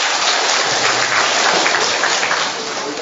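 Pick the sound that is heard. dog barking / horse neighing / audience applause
audience applause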